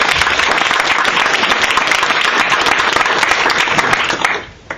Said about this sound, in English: Okay, arguing for the motion from Brighton, big round of applause for